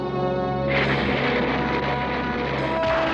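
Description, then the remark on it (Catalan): A night storm breaks with lightning and a deep, sustained rumble of thunder that swells suddenly and stays loud, over a steady low drone with no one speaking. “Al cel nocturn esclata una tempesta. Enmig dels llampecs, un home grimpa per la torre.”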